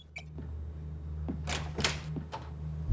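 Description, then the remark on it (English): A door is opened to let a visitor in: a couple of soft latch clicks, then a short rushing swish and a final knock, all at moderate loudness over a steady low hum, with no voices. “Lauren shuts down the computer as Noah opens the door to Eli.”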